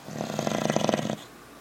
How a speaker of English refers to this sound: he's freaking snoring. Did He's it start softly snoring. Or did it start all of a sudden? No, it was just all of a sudden. It was loud.